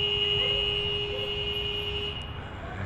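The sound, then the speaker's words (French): An electronic school bell sounds as one steady, unbroken tone with a shrill high edge, holding for about two seconds before cutting off and leaving a broad background rumble. “Alors on vient d'entendre la sonnerie de l'école où vous êtes installé aujourd'hui.”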